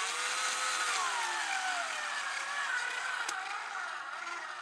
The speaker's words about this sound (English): Make the hole a little bit wider for the wall plug. And then drill the screw into the wall plug.